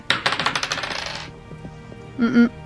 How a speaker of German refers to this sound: Ja, würfeln wir auf Historie. Ach, es wird aufregend hier.